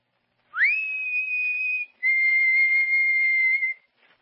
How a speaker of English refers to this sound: And when I had it open, I put my head out and whistled softly. Like this. At first, there wasn't a sound. So I whistled again.